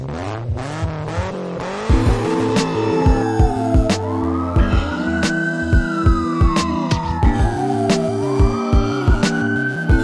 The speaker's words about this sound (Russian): Включаем аварийки, зарычали глушаки.